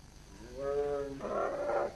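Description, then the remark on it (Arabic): A Himalayan black bear growls loudly, starting with a low moaning bellow that breaks into a rougher, raspy growl, with no voices. “إذا لم يكن للحيوان السري قوائم حافرية فقد يكون دب هيمالايا الأسود، فهو لديه أكف، وقد ميزه الله ببقعة بيضاء على شكل الهلال على صدره وذقنه، مما يمنحه لقبا آخر، دب القمر.”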